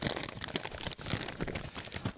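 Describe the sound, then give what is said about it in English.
Paper crinkling and rustling, a continuous dense stream of crisp crackles with brief pauses, as a mailed letter is pulled out, handled and unfolded. No voices. “The only place in the world that has emails that actually sound like real paper.”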